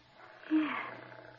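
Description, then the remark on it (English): A small female cat purrs softly as she is patted, a low, steady rumble that holds for the whole moment, with a brief faint squeak partway through and no voices. “Just pat her and listen to her purr.”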